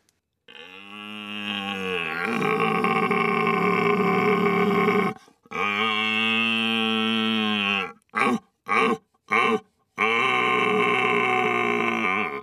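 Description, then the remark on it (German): A man's voice imitates a red deer stag's rutting roar: long, deep, throaty bellows, then a burst of short grunting calls and a final drawn-out roar, loud and with no other talk. “Also Sie würden mir jetzt eine Riesenfreude machen, wenn Sie einmal so einen Hirsch-Brunftschrei uns vormachen würden.”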